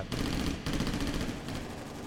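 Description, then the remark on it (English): Loud, rapid automatic fire from an M16 rifle, swept back and forth across a road, rattles in two sustained bursts separated by a split-second pause, the shots blurring into a dense, continuous crackle with no voices. “But at that point, according to his own testimony later on, he jumped up, held up the M16, and sort of swept it back and forth across the road with his eyes closed.”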